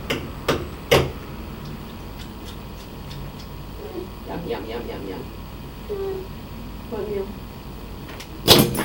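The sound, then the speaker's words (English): A child bangs a fork against a tray at lunchtime: two sharp metallic clanks at the start, a few lighter taps, then a loud burst of clattering hits at the end, with a voice babbling in between. “You just want to bang the fork?”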